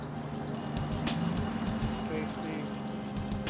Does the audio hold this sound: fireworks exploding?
no